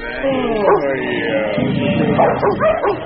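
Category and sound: animal, dogs barking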